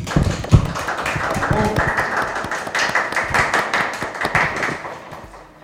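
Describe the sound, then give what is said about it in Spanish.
A crowd applauds, with dense overlapping claps forming a steady, fairly loud wash that holds for several seconds before tapering off at the end. “Aplausos para la doña Petrona que tenés adentro.”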